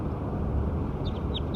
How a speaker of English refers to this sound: So recording bird 6 again.